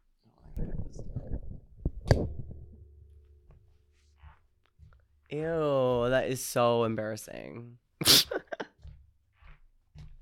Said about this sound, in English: These boots are making a squeaking noise now, and I feel like fucking SpongeBob. You know the episode where he has squeaky boots? Look, listen to this. Listen to this.